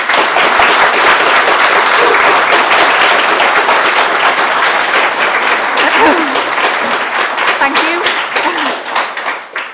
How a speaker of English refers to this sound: By now, you all know who I'm talking about, so please give a warm round of applause to Laura Towler.